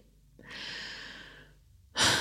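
deep audible breath

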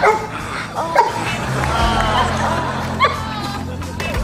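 dog barking and whimpering

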